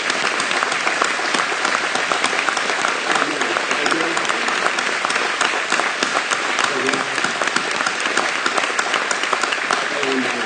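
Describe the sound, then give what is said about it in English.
An audience claps for God during a morning church service, steadily for about ten seconds, a dense, even wash of applause at constant loudness with no pauses, and faint voices mixed underneath. “Just wind down this giving him a clap.”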